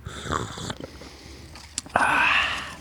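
Someone slurps coffee: a few short, breathy sips give way to a loud, drawn-out airy slurp that hisses steadily for the final second.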